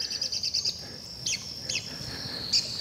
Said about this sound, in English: The red-cockaded woodpeckers just lit in that tree right there. Hear them?